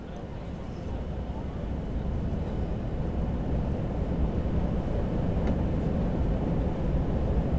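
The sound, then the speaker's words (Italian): An airplane carrying children, a few teachers and crew members taking off: a dense, steady low roar of engines that swells slightly and holds strong throughout. “Finalmente l'aereo decolla.”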